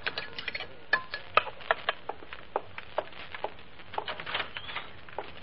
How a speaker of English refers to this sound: Now add a pinch of lead arsenate. Sprinkle the flour of quince, heaping teaspoonful of calcined vitriol. Swish it around, then pour it all onto a pigeon pie.